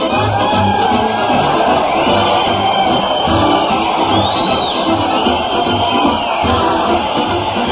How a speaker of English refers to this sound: Listen to that crowd cheer Fred Allen as he heads his weekly parade to the Old Town Hall